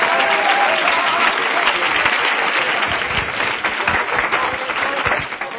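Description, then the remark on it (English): A crowd claps steadily for several seconds when asked to clap if they are looking forward to the coming of the Lord, a dense, even wash of many hands with a faint murmur of voices underneath, holding loud throughout before easing slightly at the end. “Why don't you clap your hands if you're looking forward to the coming of the Lord?”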